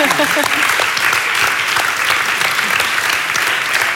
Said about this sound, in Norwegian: Og jeg tror vi skal bare få en sånn skikkelig applaus på det du har fått til. Yay!